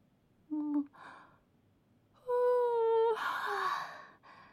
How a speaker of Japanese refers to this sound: あーごめん、僕も眠気がすごくていっぱいあくびしちゃってる。君にだらしないところ見せるつもりはなかったんだけど、やっぱりダメだった。